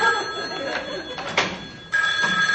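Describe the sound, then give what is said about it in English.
A telephone bell rings continuously and fairly loudly, its bright metallic trill briefly dipping before resuming at full strength, with faint murmuring voices in the background. “Yeah, any idiot can fix a phone.”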